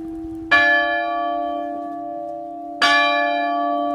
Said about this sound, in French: Accompagnée du tocsin, la cloche est... Celle-ci est 18e. Elles arrivent doucement.